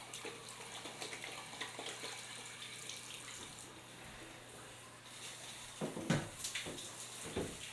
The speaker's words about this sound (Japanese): OK かな。よし、頭流しますね。